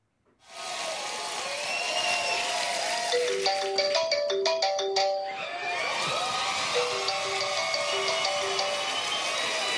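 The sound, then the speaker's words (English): A phone rings with a short electronic ringtone melody, playing twice in a row over steady, loud audience noise, in a fake phone call sketch between Jimmy Fallon as Donald Trump and Hillary Clinton after the Republican debate. “And he engaged Hillary Clinton as they did a little fake phone call with Jimmy Fallon as Donald Trump.”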